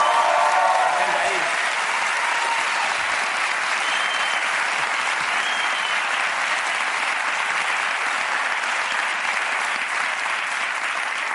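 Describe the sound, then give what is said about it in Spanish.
Loud, sustained audience applause for about eleven seconds, a dense, steady wash of clapping hands with no pauses, and a few voices faintly audible at the very start. “Te alimentan los aplausos, ¿eh?”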